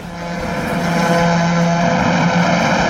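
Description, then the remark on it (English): A heavy semi-trailer truck roars past on a main highway beside a farm, its engine swelling louder while the driver gives a long, steady blast of its horn over the rumble. “Now our farm lies next to the main highway in one spot, and every now and then a truck will go past and he'll beep to us. Here comes one now.”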